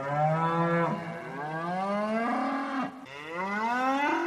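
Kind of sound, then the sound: animal, cow mooing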